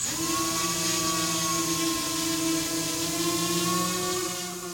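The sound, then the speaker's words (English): A steady, high-pitched whirring buzz of drone rotors in flight, loud, holding a constant tone with slight pitch drift throughout, no voices present. “The sound of drones is becoming much more common in our lives.”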